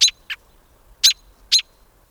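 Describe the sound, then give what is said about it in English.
A sharp, repeated alarm call from an adult American robin, sounded when its young are threatened: four quick, piercing notes spaced irregularly, loud, with no other sounds around them. “Adult robins sound this alarm when their young are threatened, like by a cat.”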